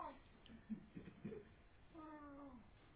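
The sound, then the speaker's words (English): A person briefly mimics a peacock's cat-like cry, one drawn-out, slightly falling wail near the end, after a few soft, muffled vocal sounds. The voice is moderately loud. “Well, anyway, it's cat-like, but not meow, not like that.”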